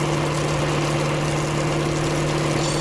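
A steady, droning engine-like rumble with a constant low hum, continuous, with no voices present.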